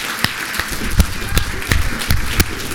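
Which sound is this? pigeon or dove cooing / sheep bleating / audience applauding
audience applauding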